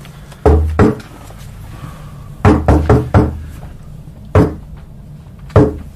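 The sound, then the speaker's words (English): Loud, sharp knocks on wood tap out a deliberate signal pattern: two, then a quick run of four, then two single knocks spaced apart, with no one speaking. “That knock.”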